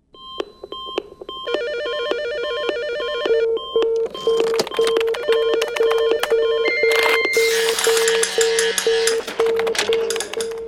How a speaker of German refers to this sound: Dort, wo früher Telefone klingelten und Computer piepsen, tönt morgen neue Musik.